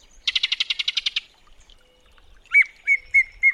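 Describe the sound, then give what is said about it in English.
A yellow-breasted chat calls, opening with a quick run of about nine harsh, rattling notes, then after a pause a few separate whistled calls ring out clearly with no talking. “When the northern summer declines, the yellow-breasted chat will make its way south to winter in Central America, until the springtime draws it north again.”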